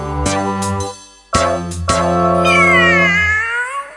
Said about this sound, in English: El gato maulla. The cat meows.